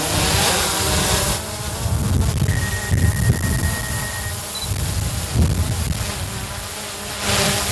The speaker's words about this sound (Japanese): 元パイロットのトム・カスカさんの耳にはドローンの飛ぶ音は心地よく、彼のドローンビジネスは今数千人のエアラインパイロットに仕事を提供しています。